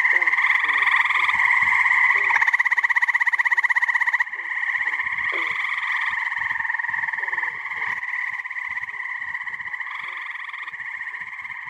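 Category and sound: animal, frogs croaking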